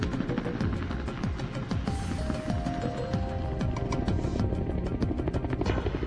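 A helicopter flies by, its rotor thumping in a rapid, steady chop over a deep engine rumble that holds at a constant loud level throughout, with no voices.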